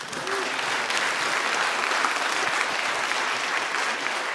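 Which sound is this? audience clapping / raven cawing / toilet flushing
audience clapping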